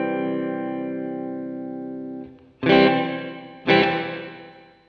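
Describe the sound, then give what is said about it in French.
An electric guitar chord played through a reverb pedal in a small room rings out steadily with a short reverb tail, then two more strummed chords strike sharply and decay into a modest ambient wash. No voices. “Le gros bouton standard en haut, c'est la longueur de la reverb, donc une reverb plus ou moins grande.”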